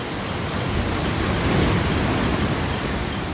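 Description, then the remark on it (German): Steady roar of Arabian Sea waves washing onto a wheat-coloured sandy beach in Kerala, at the southern tip of the Indian subcontinent, a dense hiss that swells slightly midway through before settling back. No voices are heard. “Die Wellen des arabischen Meeres lecken an weizenfarbenen Sandstränden, klatschen gegen wuchtige Klippen an der Südspitze des indischen Subkontinents.”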